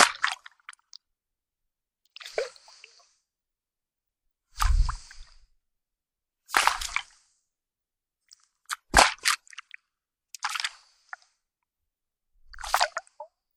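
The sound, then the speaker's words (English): Water sloshes inside a balloon in a series of about seven wet, squishy surges, each a second or so apart, some with a deep, boomy thud, with no talking. “No, it's just a slosh of water, but it's somehow amplified by the curves of the balloon or something.”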